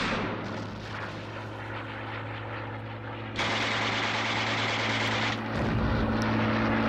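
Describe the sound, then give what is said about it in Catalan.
Warplanes drone loudly and steadily overhead while bombs explode, heavy rumbling blasts that swell the roar twice and leave it louder and denser, with no voices, evoking the Civil War bombing of Benicarló, Spain. “Avui iniciem el programa amb aquest so, so d'avions, so de bombes, perquè es complixen 80 anys del bombardeig a Benicarló durant la Guerra Civil.”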